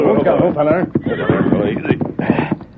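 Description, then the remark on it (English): Early in the morning in Red Rock Canyon near Clemens and Buena Vista, the Lone Ranger and Tonto pull their horses to a halt; the horses whinny loudly and repeatedly, with a few hoof clops as they stop, all packed into a few seconds. “Early the next morning in Red Rock Canyon near Clemens and Buena Vista, the Lone Ranger and Tonto pulled their horses to a halt.”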